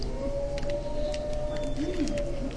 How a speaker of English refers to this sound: Do you hear that wolf howling in the music?